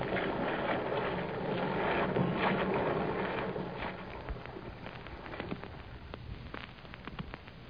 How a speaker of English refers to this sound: You aren't going to run up more sail in this gale, are you?